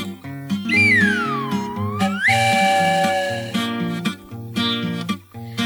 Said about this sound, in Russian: Самовара паровоза ветролет. Он летит, свистит, пыхтит и чай дает. Он летит себе по небу и свистит, и чаек для Дуси с Васей кипятит.